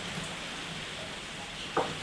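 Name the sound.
rain falling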